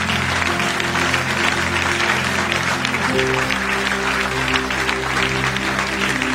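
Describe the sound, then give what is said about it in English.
A standing church audience claps hands as a clap offering to the Lord, in a dense, continuous wash of applause that stays loud and steady throughout, with sustained low musical tones humming beneath the clapping. “Clap your hands like you are not tired.”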